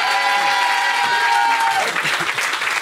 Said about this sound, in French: On va l'applaudir, je sais pas comment tu t'appelles.